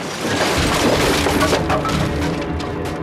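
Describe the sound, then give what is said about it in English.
A sustained, loud crash of an office collapsing as its walls come crashing in, with splintering wood, cracking and heavy rumbling debris tumbling continuously for a few seconds, dense throughout. “Suddenly, the walls come crashing in as the whole office collapses on top of them.”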